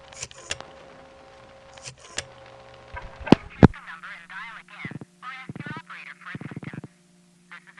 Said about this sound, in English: Anyway, let's finish dialing three digits that don't begin any phone number and are not an area code.